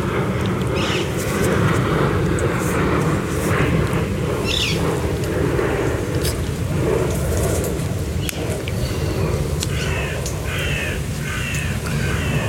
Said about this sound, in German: jetzt fliegt da ein Flugzeug über mir und versucht, den Vögeln Konkurrenz zu machen. Ich warte jetzt mal einen kurzen Moment.